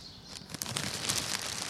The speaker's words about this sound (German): Genau, jetzt weht auch gerade so ein leichter Wind und dieser Fallschirm macht ein sehr schönes Geräusch.